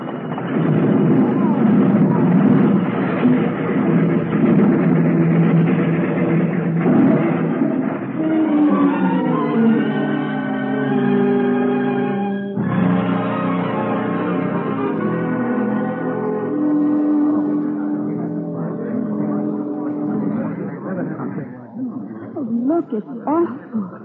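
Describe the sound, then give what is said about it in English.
A train brakes hard, unable to stop in time for a freight train stalled just ahead on the track; its loud rumble gives way to sustained, shrill metallic screeching that shifts pitch, with a sudden jolt midway as the grinding continues toward a stop, leaving the front car wrecked. “Surely he saw it, miss, but he couldn't stop. Brakes couldn't be set in time.”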